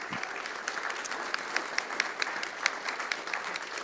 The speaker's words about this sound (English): But man, the worship team has really stepped up while he's gone. Can we give them a big round of applause?